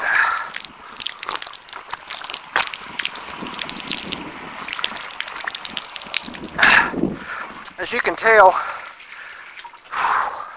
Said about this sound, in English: All right, we're going to take a little bit of water. We've been running about 30 minutes. Close to the turnaround point. Whoops, got a crinkle.